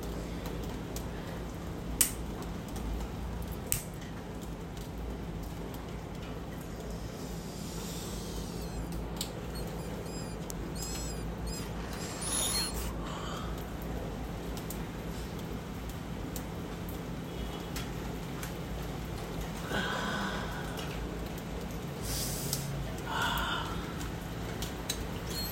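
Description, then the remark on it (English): Steady rain falls outside, a soft continuous hiss dotted with scattered sharp drips and patters, fairly faint and even throughout with no one talking. “I hope you can hear the rain.”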